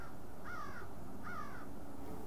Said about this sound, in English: The most interesting thing, of course, is the birds at this time of the day. We can hear them in all directions.